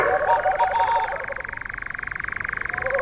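A boreal owl's pulsing call: a steady, rapid train of mid-pitched pulses runs through the whole clip, joined at the start by a few brief, lower warbling notes.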